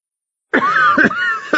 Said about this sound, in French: You're coughing. Écoutez et répétez. Tu tousses. Tousses. Tu tousses.